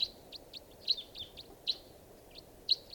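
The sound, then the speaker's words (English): A flock of four birds give short, high chirping calls in quick, irregular succession as they fly across a river, calling over a faint hiss of background noise with no voices. “Oh, a flock of four. And they're flying across the river.”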